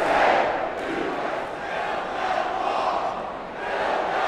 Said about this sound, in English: The crowd chanted USA and build that wall before President Donald Trump even entered the building.